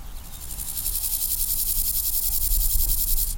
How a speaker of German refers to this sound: Die Heuschrecken teilen sich den ehemaligen Taxiway als Lebensraum mit einer weiteren Tierart, die für ihr kollektives Verhalten bekannt ist.